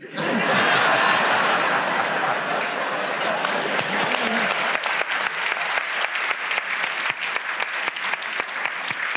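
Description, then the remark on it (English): An audience breaks into loud, sustained applause for a winning entry in a word quiz, with a scatter of laughter at the start, the clapping thinning into distinct sharp claps toward the end. “I think the applause David's suggests that he one.”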